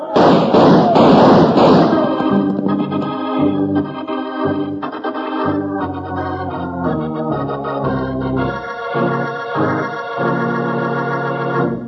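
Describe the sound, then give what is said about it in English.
A loud, crackling volley of gunshots fires rapidly for about two seconds, then gives way to a dramatic stretch of music with sustained tones and shifting notes. “Shoot this weasel. Gun him down.”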